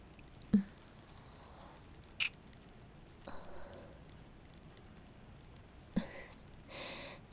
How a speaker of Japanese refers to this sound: 誰も見てないのに、全部雨が隠してくれるのに。